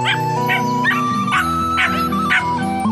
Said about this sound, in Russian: Ей навстречу пес залая прибежал и смог, играя.